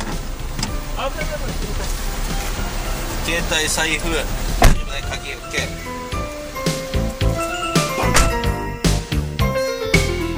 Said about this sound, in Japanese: はい、じゃあドア閉める音までもらおうかな。もう本当に降りて終わりで大丈夫よ。もう終わりで終わりで。 お疲れ様でした。 はい、お疲れ様でした。 よし降りるぞ。 ドア閉まる音で終了ね。